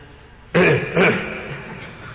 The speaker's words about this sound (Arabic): طيب قوله ثم يتنحنح، يعني إذا انتهى من البول تنحنح.